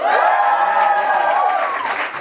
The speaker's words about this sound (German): Ja, wir haben einen neuen Jingle. Ich liebe ihn. Gefällt er euch?